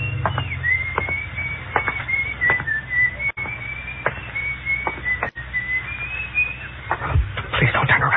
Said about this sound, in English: My mouth was so dry, I wondered for a few seconds how that guy had been able to whistle, you know, the way you do.